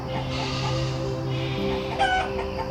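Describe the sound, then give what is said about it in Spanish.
Several hens cluck softly and continuously, a busy overlapping murmur of farmyard chatter, with one brighter, higher call rising briefly toward the end. “Visualiza que se acercan a ti varias gallinas mirando el suelo en busca de cualquier cosa que les resulte nutritiva.”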